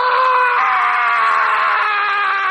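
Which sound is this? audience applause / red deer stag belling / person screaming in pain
person screaming in pain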